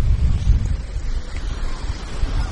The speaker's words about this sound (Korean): 파도 소리 들리십니까? 바람 소리와 섞여 있는 이 파도 소리. 노스캐롤라이나 주에 있는 아우터뱅크스라는 바닷가에서 들려드리는 파도 소리입니다.